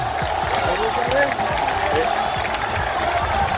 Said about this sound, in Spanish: Los aficionados aplaudieron mayoritariamente el gesto del capitán, que iba acompañado del delantero Luis Suárez.